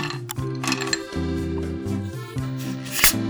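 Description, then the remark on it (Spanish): Ice cubes are taken out at home for a very cold sparkling water, clinking and rattling in a few sharp, irregular bursts, the loudest near the end, over a steady humming tonal background with no talking. “Ahora voy, me saco mis hielos.”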